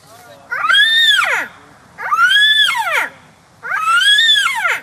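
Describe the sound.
A student's voice imitates a yellow-tailed black cockatoo at the Bornda Bird Olympics bird-call contest on the far south coast of New South Wales, giving three long, wailing calls that rise then fall in pitch, each lasting about a second and separated by short pauses.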